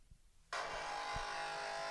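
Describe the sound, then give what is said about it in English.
After a brief hush, a coffee machine switches on abruptly and keeps running with a loud, steady, buzzing whir that holds an even pitch to the end, with no voices. “Is that what the coffee machine sounds like?”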